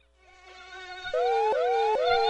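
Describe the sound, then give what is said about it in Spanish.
A dengue mosquito buzzes with a high, whining drone that swells from faint to loud, its pitch sweeping up and down in a few repeated arcs. No one speaks. “Que no te pique. ¿Dónde está el mosquito del dengue?”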